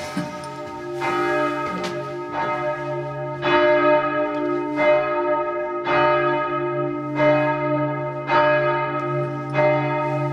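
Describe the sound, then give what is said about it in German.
Church bells up in one of the two towers of a large church peal in a steady, loud sequence of strikes about a second apart, each ringing on and overlapping the next in a rich, sustained hum. No voices. “Bevor wir aber die große Kirche verlassen, wollen wir unbedingt noch auf die 2 Türme steigen. Wir brauchen mehr als 5 Minuten, bis wir oben bei den Glocken angekommen sind.”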